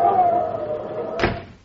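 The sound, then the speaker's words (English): A door creaks open with a thin, drawn-out squeak as it is answered for someone coming up on the porch, then swings shut with a single solid slam about a second later, fairly loud, with a faint murmur underneath. “And there's somebody coming up on the porch, Pa. Answer the door.”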